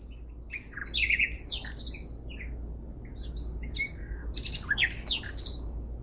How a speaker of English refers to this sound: At once, a nightingale began its emotional song.